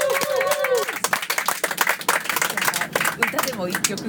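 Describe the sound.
A round of applause from a small group, dense rapid clapping that stays fairly steady for a few seconds, with excited voices and cheering mixed in over it.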